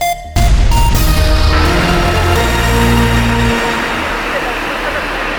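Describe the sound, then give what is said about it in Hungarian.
A loud, steady airplane engine roar from the plane carrying Vladimir Putin and his entourage, which landed in China at dawn, kicks in abruptly after a brief quiet moment and holds at full volume, a deep rumbling drone with a slight whine on top that eases off only a little. “Bár önök most csak repülőgép zúgást hallanak, de bátran elhihetik nekem, hogy ezzel a géppel Vlagyimir Putyin és kísérete szállt le még hajnalban Kínában.”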